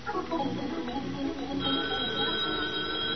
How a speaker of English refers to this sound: Oh, gee, I hope that's a date. There ought to be a way you could tell it's a date by the way the phone rings.